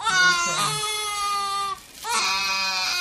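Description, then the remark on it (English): A 15-month-old toddler wails loudly in two long, high-pitched cries while being vaccinated against measles, mumps, rubella and chickenpox at the pediatrician, breaking off briefly for a gasping breath before the strained crying starts up again. “On this day, he's being vaccinated against measles, mumps, rubella, and chickenpox. He doesn't much like it.”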